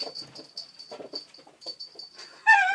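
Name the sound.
dog whimpering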